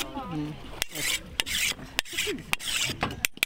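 A machete being sharpened: several rhythmic, gritty rasping strokes of metal scraping along the blade, broken by sharp clicks, with a faint voice murmuring at the start.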